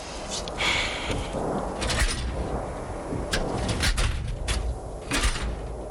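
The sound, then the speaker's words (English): Drawers of gray steel cabinets backed against a wall in a closet-sized room scrape and slide open one after another, with sharp clanks and rattles at uneven intervals, fairly loud over a steady background rumble. “Gray steel cabinets backed against a wall. No more than a closet, really. Drawers.”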